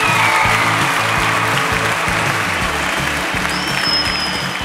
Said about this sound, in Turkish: harikalardı, bir alkışlayalım onları.